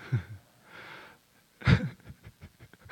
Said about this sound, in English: Oh, you bless you, brother. Bless you.